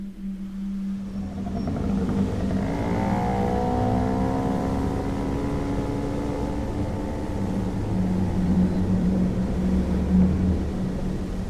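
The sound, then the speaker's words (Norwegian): A moped engine drones steadily as it is ridden home on a cold autumn evening in Halden, its buzzing pitch climbing as it accelerates, then holding a constant rumble as it drives on. No voices are heard. “Haldenkvelden har et kaldt høstdrag i luft, og da Per kjører hjem på mopeden sin.”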